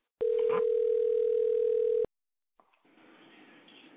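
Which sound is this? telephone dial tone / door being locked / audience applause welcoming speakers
telephone dial tone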